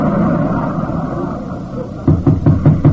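A steady low hiss and rumble gives way to a quick run of about five firm knocks on a door, evenly spaced and fairly loud, with no one talking.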